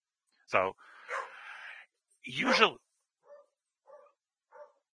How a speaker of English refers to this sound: Hold on one second. Let me close the door. Dogs are very excited over here.